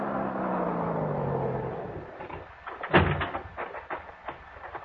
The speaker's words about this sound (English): Then I heard it. The hot rod coming down the soggy wagon road.